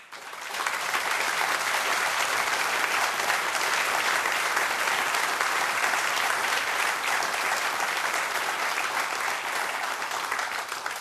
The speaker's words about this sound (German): Euch allen ein herzliches Dankeschön und auch der nächste Applaus gehört euch.